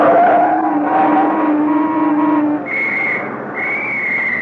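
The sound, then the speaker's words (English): A car driven by a woman speeds along Elm Street toward the curb with a loud, steady engine whine, then a police officer blows two sharp, high-pitched whistle blasts as it pulls up. No one speaks. “Here comes a woman driver.”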